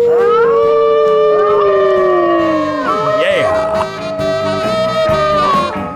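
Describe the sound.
Human voices howl like wolves, a person's trademark howl, long sustained wails that rise and fall, several overlapping at different pitches, loud for about six seconds.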